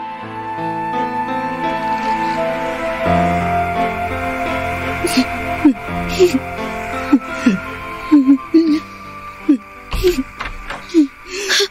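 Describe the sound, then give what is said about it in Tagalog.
An elderly woman cries in short, shaky sobs and whimpers at two in the morning, starting midway and repeating irregularly over a soft, sustained musical backdrop. “Bakit kayo umiiyak?”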